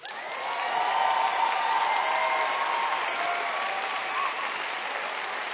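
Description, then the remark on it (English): An audience bursts into sustained applause, a dense, steady wash of clapping with a few scattered cheers, holding at a fairly loud level for several seconds without any talking. “See, now that wouldn't get applause everywhere, I'm betting, is what I think, you know, in a lot of venues.”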